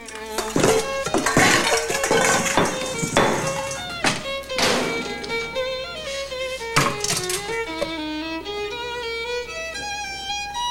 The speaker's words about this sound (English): Looking distraught, she then takes pots and pans down from racks and cupboards.